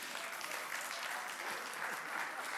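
Steady audience applause for a person called up to join the speaker, a dense crackle of many hands clapping at a constant level throughout, with no voices standing out.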